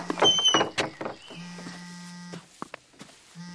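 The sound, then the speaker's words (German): A door creaks and rattles open, followed by a couple of sharp latch clicks as it swings shut, over a steady low mechanical hum. “Hältst du mir mal die Tür auf?”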